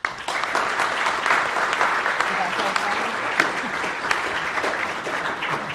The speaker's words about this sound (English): So please join me in a warm round of applause for our panelists.